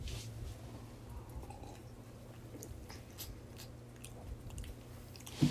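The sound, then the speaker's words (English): Quiet sipping of Kopu water from a glass, with small wet mouth clicks and swallows scattered over a low, steady background hum, ending in a brief soft knock. “Wow, that's really good water. It's really good.”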